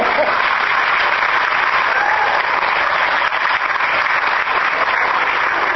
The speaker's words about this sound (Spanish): Muy bien, fuerte ese aplauso